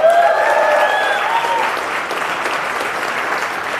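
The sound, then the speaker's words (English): A crowd claps steadily throughout, a dense, even wash of applause, with a few brief whistles or whoops near the start before settling into continuous clapping. “You didn't let me finish Fauci Unmasked with Michael Knowles, so there's no need to clap.”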